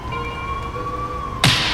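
A steady siren tone drones at moderate loudness, holding nearly level with a slight dip, then a sudden loud burst of noise cuts in just before the end.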